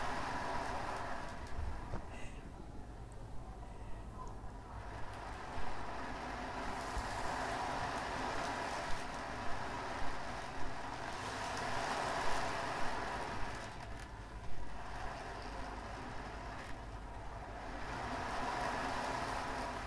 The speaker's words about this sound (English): As this most magical of boats starts to set sail out of the harbour and across the waves.